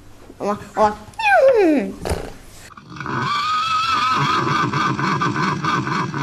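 A dog whines in short high yelps with a falling cry, then breaks into a long, steady, rumbling growl-whine that continues fairly loud to the end.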